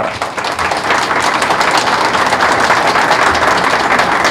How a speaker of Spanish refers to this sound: de este tribunal calificador, cuya tarea no ha sido fácil, y sin embargo ellos no han escatimado tiempo, esfuerzo, restarle tiempo a su descanso con la credibilidad y la honorabilidad de estas cuatro figuras, para quienes pido un aplauso.